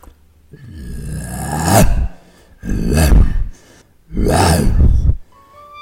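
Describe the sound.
A person playing the lion in a stage play imitates a lion's roar three times in a row, as Thisbe flees and loses her cloak. Each roar is a loud, drawn-out growling bellow that swells and breaks off, with short pauses between them.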